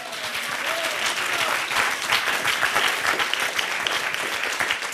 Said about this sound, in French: Merci d'être là, Darius Rochebain. On peut vous applaudir encore une fois.